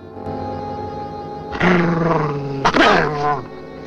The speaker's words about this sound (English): The dog bares its teeth and snaps at him.